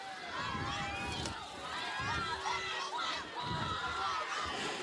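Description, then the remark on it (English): A steady, roaring stadium crowd at a football game between Clayton and the Macs, fans of both sides firing up with 4:20 left in regulation, a dense wash of cheering and shouting voices that swells and dips slightly over several seconds with no single speaker standing out. “Fans, the crowd is crowds, both sides definitely firing up.”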